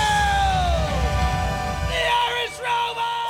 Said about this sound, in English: But there's no crowd, no audience, just a few crew members yelling back.